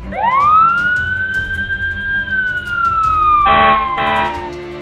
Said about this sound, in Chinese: 红色消防车队闪着警灯，响着警笛，前面拥堵道路上的汽车纷纷给他们让开道路。